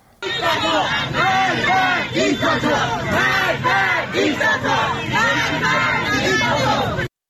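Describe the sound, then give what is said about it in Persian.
A large crowd of protesters in Mashhad on Saturday evening chants slogans in unison, including "death to the dictator", loud and rhythmic, with repeated shouted phrases rising and falling steadily for several seconds over a continuous roar of voices. “تصاویری که در شبکه‌های اجتماعی منتشر شده، گروهی از معترضان را نشان می‌دهد که شامگاه شنبه در مشهد شعارهایی از جمله مرگ بر دیکتاتور سر می‌دهند.”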